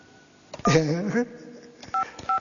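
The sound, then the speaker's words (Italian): A brief burst of voice gives way to two short, crisp telephone keypad beeps pressed in quick succession as someone dials the number of Pupo (Enzo Ghinazzi), each a clean dual-tone chirp, fairly loud. “Quindi, come dire, io telefono a Pupo, io telefono a Pupo, oh sì sì, c'ho il numero, speriamo che risponda, sì sì.”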